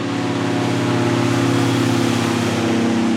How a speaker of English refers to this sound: Next, an airboat comes buzzing down the river, carrying a strike team of Border Patrol agents. And they're heavily armed.